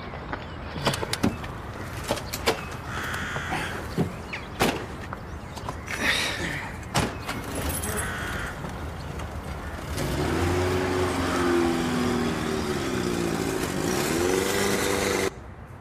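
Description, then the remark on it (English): A series of sharp clunks and thuds from a car door closing, then the engine turns over and settles into a steady idle with a brief rise in revs. “Come on, here's the car.”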